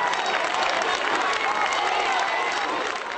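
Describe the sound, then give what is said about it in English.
A large crowd at St. Peter's Basilica applauds and cheers as newly elected Pope Benedict XVI, Joseph Ratzinger of Germany, comes out on the balcony, in a dense, steady roar of clapping and voices, loud and unbroken from start to finish. “He came out on the balcony in his new white cassock and red cape and smiled at the cheering crowd.”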